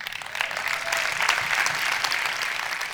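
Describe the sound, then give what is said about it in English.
A church audience at the Rock Church and World Outreach Center applauds in praise of God, a dense, steady wash of clapping that holds at an even, fairly loud level throughout, with faint cheering voices mixed in. “Hey, today, if you got somebody out of God today, let's give him a praise.”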